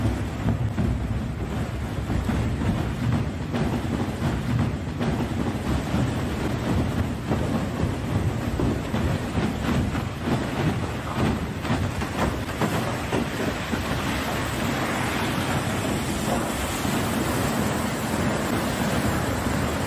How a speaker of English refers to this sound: Pay special notice to what happens as the water begins, as the dam gate is open. See what comes out.